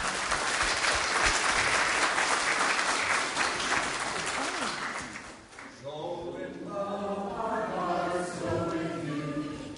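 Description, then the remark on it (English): An audience of children and adults breaks into a loud, sustained round of applause after dancing in the morning, lasting about five seconds, then the clapping fades out as someone begins talking. “I want to give all of you a round of applause and thank you for helping me to dance this morning.”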